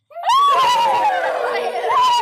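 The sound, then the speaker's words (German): Loud horse whinnies played by pressing a button on an animal-sounds device, a long high wavering neigh with a rough, shaky texture, fading off and rising again near the end. No talking. “Hier sind Pferde.”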